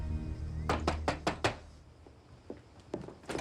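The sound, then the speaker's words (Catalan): Five quick, sharp knocks on a window by a door in a steady run, followed by a few softer, scattered taps against a low background hum. “En un altre lloc, la Charlotte corre cap a una porta i truca a la finestra.”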